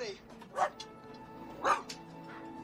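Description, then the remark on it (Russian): A terrier, out of its cage, and a St. Bernard puppy in a cage bark back and forth, standing face to face: two sharp, loud barks about a second apart, each followed by a softer yip, over a low steady background hum. “Стоя друг напротив друга, они лают.”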